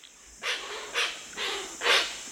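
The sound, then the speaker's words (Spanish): Hoatzin hissing calls: four harsh, breathy wheezes in an uneven rhythm, each about a quarter second long, over a steady high-pitched background hum, with no talking. “Los llamados sibilantes de un grupo suenan más como una manada de monos que una parvada de pájaros.”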